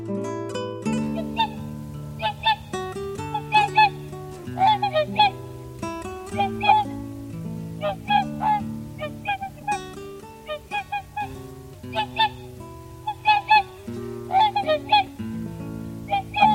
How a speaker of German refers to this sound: Das war der Singschwan.